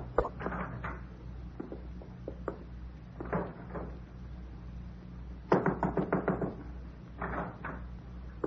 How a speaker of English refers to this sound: I didn't mean to close the door in your face.